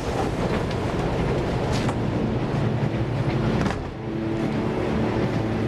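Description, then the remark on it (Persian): A moving passenger train rolls along the rails with a steady, dense rumble and hiss that stays loud throughout, dipping briefly before a low droning hum settles in. No one speaks. “قطار که وایسه چند نفر میفرستی از مبدا تا اینجا وجب به وجب دو طرف ریلو بگردن.”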